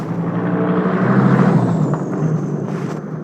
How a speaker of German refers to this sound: Es tut mir echt leid. Normalerweise fahren hier nie so viele Autos längs.